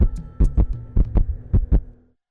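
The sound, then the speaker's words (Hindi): A loud heartbeat sound effect in a radio jingle for Gyansthali 89.6 FM, Gonda, thumps out three or four steady lub-dub pairs over a low sustained hum, with no voices, then fades to silence. “Gyansthali 89.6 FM, Gonda शहर की धड़कन।”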